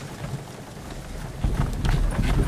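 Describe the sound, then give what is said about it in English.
Horse hooves clip-clop in an uneven rhythm over a steady rushing, rain-like hiss, the hoofbeats growing louder and sharper in the second half. No one speaks. “The dear horses are patient and good.”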